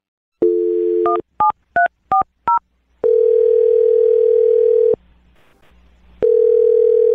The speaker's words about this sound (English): Well, I'm going to dial his phone number now, okay? Okay. All right, here we go.